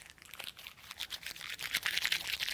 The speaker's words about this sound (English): So then he crumpled it up.